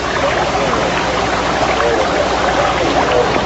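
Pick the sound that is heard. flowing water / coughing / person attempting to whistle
flowing water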